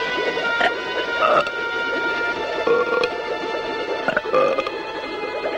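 A boy burps several times one after another at irregular intervals to get back down, fairly loud, over a steady droning, humming background with no talking.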